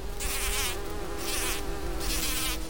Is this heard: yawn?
no